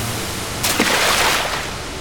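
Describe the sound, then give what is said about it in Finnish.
A single wave of rough sea surges and crashes around a sailboat speeding along in the darkening evening, a hissing wash of water that swells for about a second, then recedes into a low, steady rumble of sea noise. “Sitä lähtee korjaamaan mies, mutta kova aallokko heittää miehen laidan yli.”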